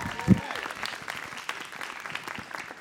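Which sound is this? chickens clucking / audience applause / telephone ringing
audience applause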